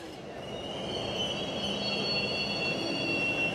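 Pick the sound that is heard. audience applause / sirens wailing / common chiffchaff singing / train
train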